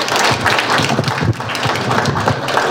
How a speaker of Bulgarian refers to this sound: На днешния 1 март и на днешния празник тук ще чуем много стихове и песни от вас, деца. И от учениците от Националното училище за танцови изкуства и Музикалното училище Любомир Пипков. Аплодисменти за тях!